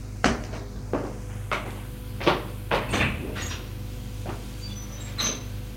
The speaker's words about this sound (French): Un jour, on a sonné à la porte. Benoît va ouvrir.